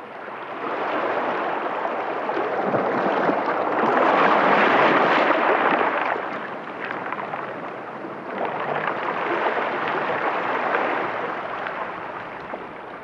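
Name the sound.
ocean waves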